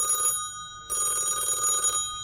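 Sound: telephone bell ringing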